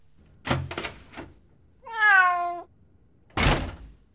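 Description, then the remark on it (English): A few quick wooden thumps, then a single clear meow from a black cat being put outside a room, followed by one loud thud as the room's door is shut. No one speaks. “She put the cat outside her room and closed the door.”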